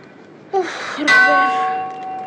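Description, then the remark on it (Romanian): A ship's large fog bell on the mast clangs twice in quick succession in fog, rung so as not to hit another ship; the second stroke is louder and leaves a long, bright metallic ring that slowly fades. “De ce bate într-una clopotul acela, Robert? Din cauza ceții, ca nu cumva să ne lovim de altă corabie.”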